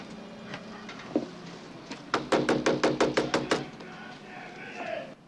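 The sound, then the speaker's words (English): A quick run of about ten firm, evenly spaced knocks on the door of a house near a noisy harbor, preceded by a lone knock, over a steady bed of background noise. “While she waits for a response, Teddy looks out over the noisy harbor area before knocking again.”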